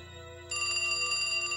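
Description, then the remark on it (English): A telephone rings with a steady, bright electronic trill for a mysterious call, starting softer and then swelling louder partway through, alone with no voices. “Then, just a few weeks before Cecilia disappeared, a second mysterious call.”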